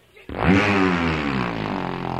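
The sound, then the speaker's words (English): A boat engine, started with a hard pull on its rope, bursts into life after a brief rattle and settles into a loud, steady droning roar that keeps running without pause as the boat crosses a lake. “The engine is running across the lake to the duck blind like all sane, courteous, responsible boatmen always do.”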